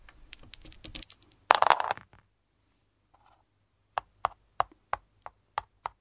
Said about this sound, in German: Würfeln wir weiter.